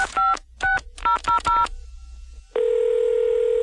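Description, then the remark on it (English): A quick run of about six touch-tone beeps as a number is dialed on a phone, followed by a pause and then a steady, loud ringing tone on the line. “Let's pick up the phone.”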